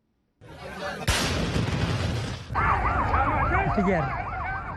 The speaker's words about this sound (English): Sirens went off and military vehicles surrounded the Al Jalah camp after a ballistic missile struck a military parade at the Saudi-led coalition airbase in the south of Yemen.